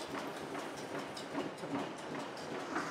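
A flattening press clanks away as a thin brass sheet for making bullet jackets goes through it, a steady, rhythmic metallic clatter repeating over a continuous dense mechanical roar at a fairly even level, with no voices.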